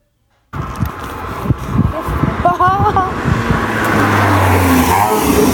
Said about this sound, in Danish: Det var noget med en bil. Spørge, kunne du høre, hvad det var? Ja, ja, det var en bil.